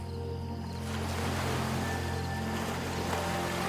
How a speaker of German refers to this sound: Kleine Wellen bewegen sich zum Ufer und ziehen sich wieder zurück. Es ist ein ruhiges und stetes Kommen und Gehen.